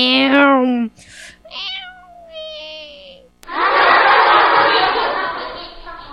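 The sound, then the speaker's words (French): A cat named Scratch crossing a road on a blue-sky day gives a few drawn-out, high meows, one wavering into a long whine, before a passing car's sudden loud rush of noise takes over and washes out everything else. “Une voiture passe et Scratch le chat.”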